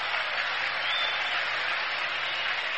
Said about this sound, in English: And they're applauding Gibson on every out now.